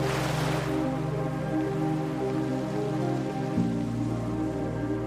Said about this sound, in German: Immer wieder kreuzen Felsbrocken und Geröll unseren Weg, Steine werden freigespült und verschwinden wieder unter den tobenden Wassermassen.